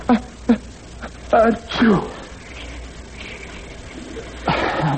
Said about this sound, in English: What? I have to sneeze. Don't you dare. I can't help it.